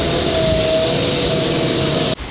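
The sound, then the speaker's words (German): Loud construction site noise in Düsseldorf: a dense, steady mechanical roar with a thin sustained whine riding on top, cutting off abruptly just before the end. No one speaks. “Ja, wenn in Düsseldorf mal Baustellen sind, dann aber auch irgendwie richtig und schön laut.”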